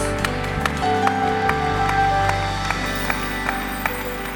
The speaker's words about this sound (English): Why don't you clap your hands one more time as you're seated?